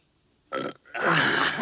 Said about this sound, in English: I did realize that early on in our podcast history, Paul, we covered a film that had an early burp, Ben-Hur. Here is Ben-Hur in a burping scene.